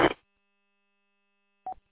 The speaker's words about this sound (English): I'm on my final approach, and as you hear, my work telephone is ringing.